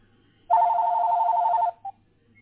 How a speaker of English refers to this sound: I have an incoming call now on the business phone.